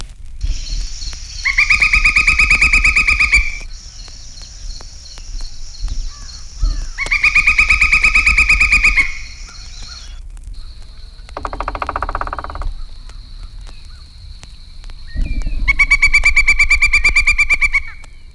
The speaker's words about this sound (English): Here is a similar call and the rapid drumming of the nearly crow-sized pileated woodpecker.